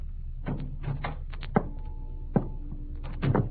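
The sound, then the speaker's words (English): A heavy body thuds against a steel drum outside a cabin several times at irregular intervals, each dull metallic bang leaving a brief hollow ring, with no voices over a low background rumble. “banged against the steel drum, and the noise it made shattered the silence.”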